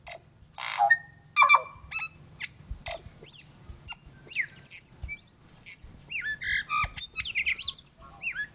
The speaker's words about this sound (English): But the tui is best known for its voice. Each tui's complex song is slightly different, a colorful mix of musical notes and offbeat sounds.